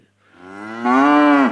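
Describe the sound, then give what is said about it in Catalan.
A single long, deep, loud moo from an ox passing by, swelling in strength as it goes before cutting off abruptly, with no other sounds around it. “I amb això, un bou que passava per allà va fer...”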